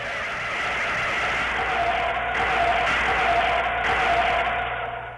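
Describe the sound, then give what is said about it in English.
A car turns, its engine and tyre noise forming a steady, fairly loud rumble that holds for several seconds before easing slightly at the end, with no voices. “The car's going to turn.”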